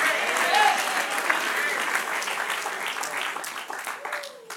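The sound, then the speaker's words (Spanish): An audience applauds in a dense, steady wash of clapping that holds for several seconds before thinning slightly, with a few raised voices and cheers mixed in. “Dale otro aplauso fuerte al que vive.”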